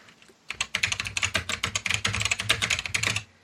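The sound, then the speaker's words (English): Rapid, steady typing on a computer keyboard during a quick search, a dense run of crisp key clicks lasting about three seconds with no voices. “That was not a sound effect. That's really my keyboard.”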